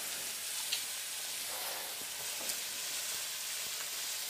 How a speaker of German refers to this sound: lass mal ein bisschen glasig anschwitzen